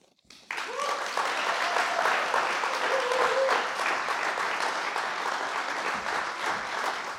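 An audience breaks into applause for a poet who has just performed on stage, after a brief quiet start, a dense, steady wash of clapping that holds loud for several seconds with faint voices mixed in.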